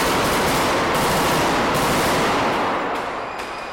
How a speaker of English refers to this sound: Well, this all started just after midnight when a man pretending to be a suicide bomber entered the centre's food court. The explosion was followed by masked gunmen storming the centre, firing at random and taking hostages.